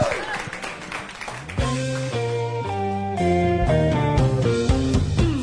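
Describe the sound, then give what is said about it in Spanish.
A short burst of audience applause for the guests at Palíndromo during a live Solo Jazz session, a dense crackle of clapping lasting under two seconds, gives way to a sustained musical passage with steady held tones. “Vamos a ir un corte, les pido un aplauso otra vez para nuestros invitados y volvemos.”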